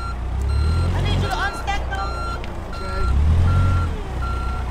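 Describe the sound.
A forklift shifting pallets outside Greater Holy Temple Church in Flint: its high, steady reversing beep repeats at an even pace over a low, rumbling engine, with a brief burst of faint voices or squeaks partway through.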